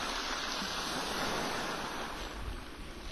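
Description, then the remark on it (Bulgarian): Steady rushing wash of water waves, a dense continuous roar of surf with slight swells in loudness, fairly loud, with no voices. “Каква е тази вода?”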